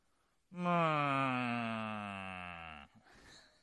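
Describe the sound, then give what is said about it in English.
A voice imitates a long, low, mournful moo, a single sustained groan of about two seconds that starts loud and slowly sags in pitch and strength before cutting off. “It's the lugubrious moo.”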